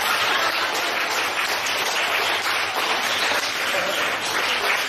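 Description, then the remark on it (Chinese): A large crowd applauds steadily, a dense, continuous wash of many hands clapping at once that holds at an even, fairly loud level for about five seconds, with no voices standing out. “现在掌声已经达到800人的想象了。”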